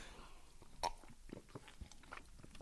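Quiet mouth noises of someone sipping and swallowing water: a sharper gulp near the start followed by a scatter of small wet clicks, with no talking.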